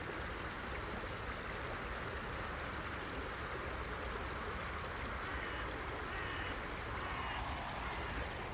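A small river pours steadily over a weir, a constant broad rushing and churning of water that holds an even level throughout, with no voices.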